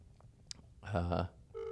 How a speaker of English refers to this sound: 9th or 10th ring. The phone is still ringing. You have the longest fucking ring. We're just waiting for a pickup, but that's not happening yet.